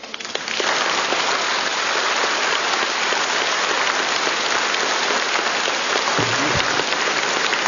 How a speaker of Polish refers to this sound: to jeszcze brawa dla orkiestry.